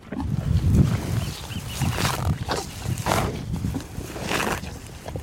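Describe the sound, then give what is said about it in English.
Cows mooing and lowing in deep, rough bellows, several overlapping calls rising and falling over a few seconds, loud, with no talking; cattle of beef and dairy ranches roaming pastures on a peninsula in a national park. “The cows.”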